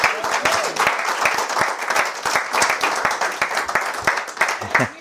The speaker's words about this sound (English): I want you to come up to the front and y'all give her a big round of applause.